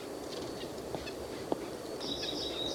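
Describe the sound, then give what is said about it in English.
Two white-breasted nuthatches in the same tree give soft, low-amplitude, low squeaky calls while wind blows, over a steady background hiss: a couple of brief notes early on, then a short run of nasal squeaks near the end. “They're both making low squeaky noises.”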